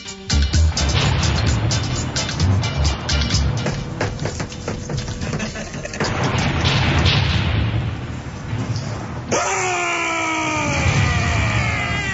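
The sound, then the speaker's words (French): Loud, rumbling thunder with repeated crackling crashes rolls on for several seconds, then gives way to a high, wavering whine over a continuing low rumble near the end. No one speaks. “est-ce que les batteries sont chargées avec l'orage?”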